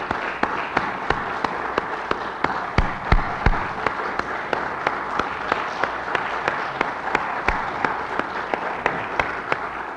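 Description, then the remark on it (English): A crowd applauds the event's program organizers and local arrangements person steadily for about ten seconds, many hands clapping in a dense, even patter with a few sharper, louder claps standing out, and no talking over it. “rounds of applause”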